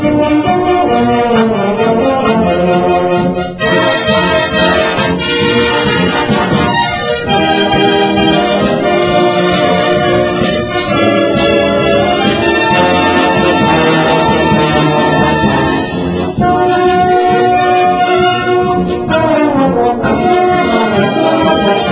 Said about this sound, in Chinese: 小喇叭加了魅音器的声